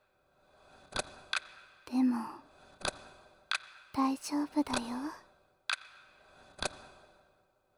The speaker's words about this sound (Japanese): 時計の音に身を任せて。